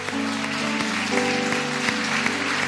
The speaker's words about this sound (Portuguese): Então quero pedir que as mães fiquem em pé. Todas as mães que estão aqui, você pode dar um aplauso forte.